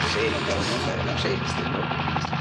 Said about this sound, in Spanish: Los tres helicópteros vigilantes sobrevuelan a cierta altura.